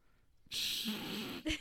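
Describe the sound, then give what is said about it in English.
A long, breathy yawn from afternoon tiredness, drawn out for about a second with a faint voiced groan, then ending in a short, sharp exhale. “Not me yawning.”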